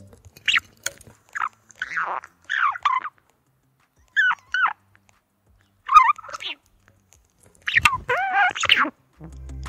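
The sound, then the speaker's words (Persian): A budgerigar screeches in a string of short, harsh, raspy bursts separated by brief pauses, fairly loud, with no one talking. “پرنده‌های ماده وقتی آماده جفت‌گیری میشن خیلی زود رنج و عصبی میشن و همش جیغ میزنن.”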